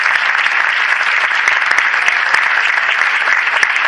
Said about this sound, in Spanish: Sin duda destacar el trabajo de todas las personas que han hecho posible este foro, que es el equipo humano que forma esta concejalía. También pediría un fuerte aplauso para todos ellos.